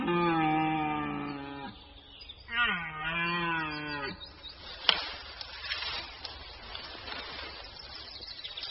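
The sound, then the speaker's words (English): Two long, deep roars from a male red deer in rut in the broadleaf forests of Eastern Europe in autumn, the second rising and wavering in pitch, followed by a stretch of rustling, crackling noise with no voices. “Male red deer are starting their rut.”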